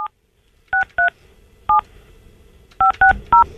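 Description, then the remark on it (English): A telephone number is dialed on a keypad to place a live on-air call: seven short touch-tone beeps, each a steady dual-pitched tone, arriving in two quick irregular bursts over a faint background. “Shorty, let me call Shorty Shane. Hang on a minute. Calling him right now.”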